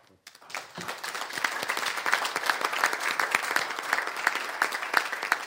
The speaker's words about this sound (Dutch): Vaak wordt voor zo'n, weet ik, voor zo'n toespraak een applaus gegeven, maar het applaus wat volgt is alleen voor u.